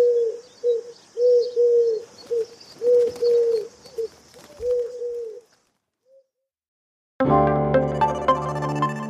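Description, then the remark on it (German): Repeated low, throaty pigeon coos in a steady rhythm, with faint chirps in the background. After a short silence, unrelated music starts abruptly. “Ja, und falls Sie nicht irgendwo wohnen, wo Sie sowieso ständig gurrende Tauben hören, hier nochmal das Geräusch, nachdem Sie Ausschau bzw.”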